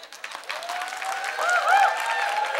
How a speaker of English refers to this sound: That was where y'all was supposed to clap. Y'all didn't clap good.